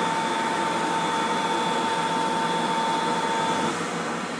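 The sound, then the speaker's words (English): A loud, steady electric hand dryer blows in a small toilet with a constant rushing roar and a faint high whine, easing off slightly near the end. No one speaks. “There's a dryer.”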